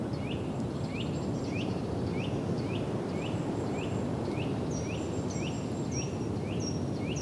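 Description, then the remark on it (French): Steady wind rushes across a vast marsh overlooked at the Lac de Cousseau under a grey sky, while a bird repeats a short rising chirp about twice a second, joined by other thin, high whistled notes. No one speaks. “Du vent, des oiseaux.”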